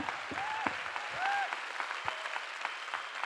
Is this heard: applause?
yes